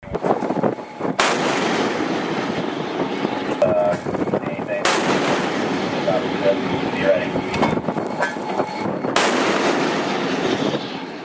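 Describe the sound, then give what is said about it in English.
A 5-inch MK-45 gun on the US Navy destroyer USS Spruance fires three heavy, booming rounds into the engine room of the vessel Tosca, spaced roughly four seconds apart, each sharp blast ringing over a steady, loud roar of wind and engine noise. “United States Navy destroyer USS Spruance fired several rounds from a 5-inch MK-45 gun into Tosca's engine room.”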